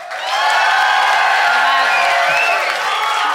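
audience applause and cheering

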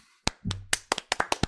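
clapping

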